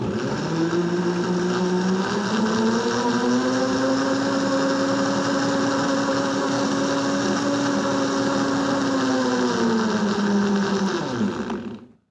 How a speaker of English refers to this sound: Let's try a piece of chalk in this blender, which will probably break the blender. This is, oh my gosh, it's already fizzing. Here we go. This is going to be loud. We're going to blend up. We're going to make a chalk smoothie.